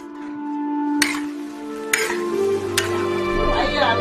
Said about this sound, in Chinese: 煮熟的黄豆在锅里直接被捣烂。在中国的东北地区，人们做酱只用大豆这一种材料，这样的单一也是一种奢侈。